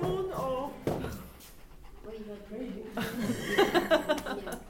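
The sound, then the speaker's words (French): A thirsty dog pants in quick, rhythmic breaths that grow louder toward the end, with voices murmuring in the background. “Il a soif.”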